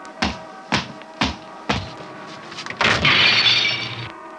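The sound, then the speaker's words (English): A car door slams shut outside a large brick building on Trey Street in Philadelphia, with four sharp, heavy bangs spaced about half a second apart, followed by a louder crash and a sustained rattle of shattering glass. “Hey, DeWitt, you forgot to close your car door.”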